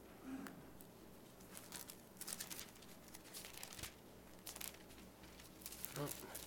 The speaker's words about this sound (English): It's so hard to turn this Bible because my dad had all these little leaflets of paper in here, and I just decided not to move them, and it just makes turning pages really cumbersome here.